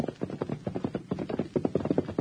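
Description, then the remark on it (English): The thoroughbred horse Dark Star, out on a workout about a mile from Colonel Rockridge's ranch house, approaches with hooves clopping in a quick, steady rhythm, fairly loud and growing slightly stronger toward the end, with no voices. “That's the horse they're all so excited about in town. He's heading this way.”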